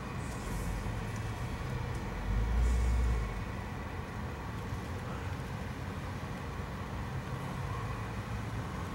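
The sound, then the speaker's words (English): A car engine rumbles steadily, with a brief swell in low-end power early on, as the car is pulled in and moved over into position. No voices. “I'm not going to be able to get out of the car, so I'm going to have to move the car over.”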